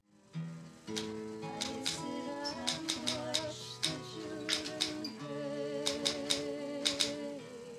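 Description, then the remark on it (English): A singer's typewriter keys clack in quick, irregular bursts, their sharp strikes cutting through sustained, melodic singing by two women that carries on underneath throughout. “There's footage of her singing with … as … types away on his typewriter.”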